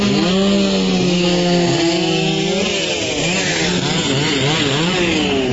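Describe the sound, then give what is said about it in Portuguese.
A chainsaw runs loudly and continuously, cutting through wood while trees downed by a microburst are removed from streets in Campinas, Brazil; its buzzing engine rises and falls in pitch as it revs and bogs down, with no voices. “Ruas e avenidas ficaram interditadas para remoção de árvores e limpeza.”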